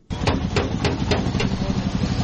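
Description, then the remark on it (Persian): A 14-year-old boy strikes a car body with a hammer while repairing it in a local car repair shop in the city of Bamyan, Afghanistan: sharp metallic blows in a steady rhythm, about five hits, over a continuous low engine-like rumble and workshop noise. “صدای چکش‌های پسر 14 ساله‌ای است که موتر را در ترمیمگاه محلی در شهر بامیان مرمت می‌کند.”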